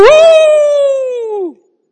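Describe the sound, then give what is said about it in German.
A person imitates a wolf's howl with a single sustained, slightly falling tone lasting about one and a half seconds, loud and close, then cutting off into silence. “Wie macht denn ein Wolf? Keine Ahnung. Habt ihr schon mal ein Märchen, der heult den Mond an?”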